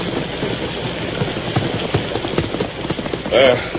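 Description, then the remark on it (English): Horse hooves clip-clop at an uneven walking pace as horses, including Silver and Victor, are led into a barn during a storm, over a dense, hissy background, with a brief louder burst of noise near the end. “Head directly for the barn. We'll take care of the horses.”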